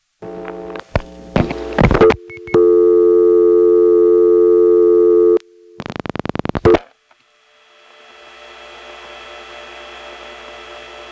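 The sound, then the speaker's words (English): Electromechanical step-office telephone switching after dialing 8: clattering selector clicks, then a steady buzzing dial tone, a quick burst of rhythmic stepping clicks, and a hissy line with faint dial tone crosstalk from the Smyrna office bleeding through underneath. “You'll notice that not only is there 8-7 office noise here, but there's some new dial tone crosstalk which is coming from Smyrna”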